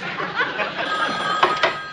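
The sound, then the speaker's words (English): A telephone rings with a steady, trilling electronic tone that fills the whole moment, moderately loud, with a couple of brief clatters near the end. “I gotta get the phone.”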